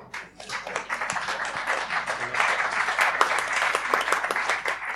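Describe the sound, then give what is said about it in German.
A crowd applauds Tahira steadily for several seconds, many hands clapping in a dense, continuous patter that swells slightly midway, with no voices on top. “Ja, Tahira, das war dein Applaus.”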